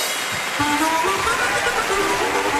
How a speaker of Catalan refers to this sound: Donem la benvinguda al nostre predicador, el gran optimista. Si us plau, un fort aplaudiment per ell.